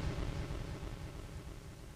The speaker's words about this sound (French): Ah, ça c'est le noise, ça. Ça c'est le noise. Un beau bruit blanc.